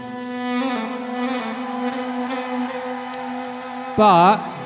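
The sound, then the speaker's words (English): A sustained musical drone, the opening of a song played live on stage in Brussels, hums on one steady low pitch, rich in overtones, for about four seconds before a louder, warbling swell with wavering pitch cuts in briefly at the end. “We went on the stage in Brussels, and the drone began just like this.”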